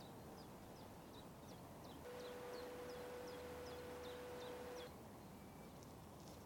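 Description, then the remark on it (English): A faint, steady roar of traffic on the M5 motorway fills the background, with small birds chirping in a regular series and a sustained tonal whine rising briefly in the middle. “Just hear the faint roar of the M5.”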